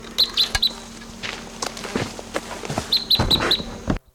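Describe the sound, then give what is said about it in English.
Wild birds take off with scattered fluttering thumps, while sharp, high chirps come in two quick bursts of four or five notes, one at the start and one near the end. No one speaks. “Those birds took off.”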